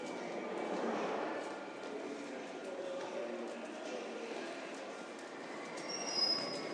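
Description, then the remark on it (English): A train rumbles steadily at a station platform, a dense mechanical roar filling the scene, with a brief high-pitched wheel squeal near the end and faint voices mixed into the background. “So what I find left hand, so what I really need is a find left hand, left handy, the train to Edgeware.”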